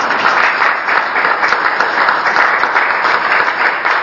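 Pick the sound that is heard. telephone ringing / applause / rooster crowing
applause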